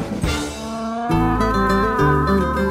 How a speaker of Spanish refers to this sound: Así hacen los burros. Muy bien. Ese es el rebuzno de un burro.